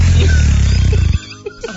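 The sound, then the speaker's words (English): A voice imitates a fart: one loud, low, buzzing raspberry lasting about a second, then cutting off abruptly, leaving a couple of faint, brief noises afterward. “I love that fart sound.”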